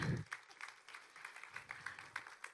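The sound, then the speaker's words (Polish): An audience applauds steadily at the opening of a panel on the psychology of disinformation, welcoming the panel moderator, many hands clapping in a dense, irregular patter with no voices standing out, holding at a moderate level for a few seconds. “Brawa.”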